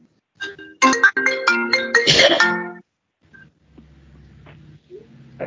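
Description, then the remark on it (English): A mobile phone plays a short shutdown melody, a quick run of bright electronic tones lasting about two seconds, followed by faint low rustling and background noise. “Turn off my phone and we're good to go.”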